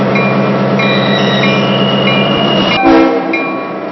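A freight train rumbles steadily as its brakes give off thin, high squeals while it is brought to a stop past the grain silos. A short clanking burst follows, then the noise begins to ease as the train slows toward a stop.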